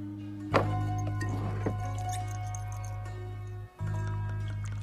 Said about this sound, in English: Harry looks her up and down, then pours her a drink in a shot glass.